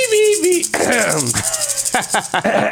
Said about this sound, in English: You don't need any backup players? No. I have my maraca.